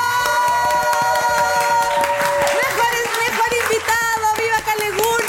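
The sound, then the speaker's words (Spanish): Loud, steady applause with cheering voices and shouts mixed in, sustained for several seconds, at the end of the last programme of the year. “¡Aplausos!”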